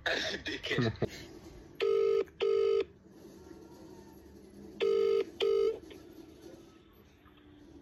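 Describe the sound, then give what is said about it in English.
A phone line rings out with two double-burst ringback tones, loud and clear and evenly spaced, after a brief voice and rustle at the start, as someone calls to say goodnight. Steady low background hum throughout. “I was calling to say goodnight.”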